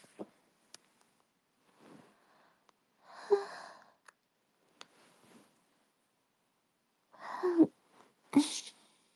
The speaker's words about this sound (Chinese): 我打点哈欠